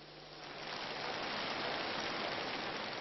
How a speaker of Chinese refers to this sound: 请我们大家以掌声欢迎。